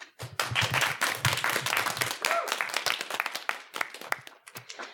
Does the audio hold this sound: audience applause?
yes